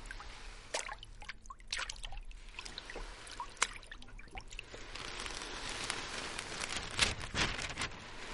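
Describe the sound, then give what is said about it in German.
Water sloshes and splashes as pirates, having anchored at a treasure island, jump into the shallow water: repeated uneven bursts like feet wading, over a steady watery wash and no voices. “Springen in das flache Wasser und rollen die Schatzkarte aus.”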